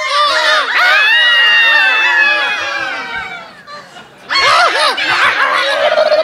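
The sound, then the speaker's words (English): A flock of seagulls squawks loudly, their shrill overlapping cries forming a dense chorus that briefly thins out midway before surging back just as noisily. “They'll replace it with one of their own squawky hatchlings.”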